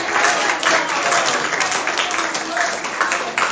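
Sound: round of applause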